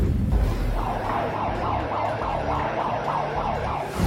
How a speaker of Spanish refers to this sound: Sí, está sonando en este momento la alarma sísmica aquí en el C5. Es conveniente desalojar los edificios y tener calma. Ahorita todo el personal del C5 está saliendo.